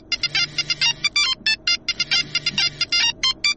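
A phone ringtone plays a rapid, bright electronic melody of short repeating beeps, loud, continuing steadily for several seconds with a faint low hum underneath, as the speaker's phone rings during an interview before being answered.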